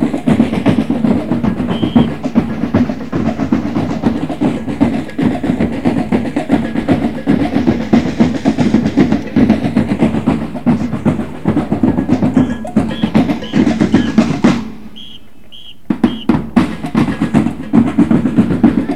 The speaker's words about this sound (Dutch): Er is ook een soort drumband aangekomen. Allemaal Afrikaanse drumsband. Nou, dat horen jullie zeker wel.